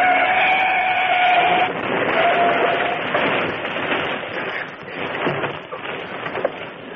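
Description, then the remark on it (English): A car skids with a loud, sustained tire screech, giving way to a prolonged crash of crunching, clattering metal as it collides with a truck on the wrong side of the road. The truck turns over and the car's left front fender and headlight are smashed. The crash rumbles on and slowly thins out, with no voices. “He turned over. Says I'm right. Just smashed my left front fender in the headlight.”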